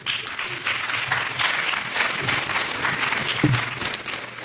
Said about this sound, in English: The cheapest applause are always the ones you get before you say anything.